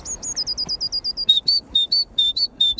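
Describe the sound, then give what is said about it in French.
A person whistles an imitation of a blue tit call outdoors in nature near Cailleux-sur-Mer, Somme: a fast run of high, thin repeated notes, then a louder series of sharp, evenly spaced chirps, clear with no talking. “Ça, c'est une mésange bleue.”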